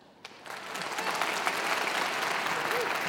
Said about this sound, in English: So let's do some practice right now. All right? When I introduce someone, I want you to clap.